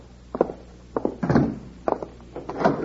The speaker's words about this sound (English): Bill, he's locking the door. Sure. Always keep the bank locked.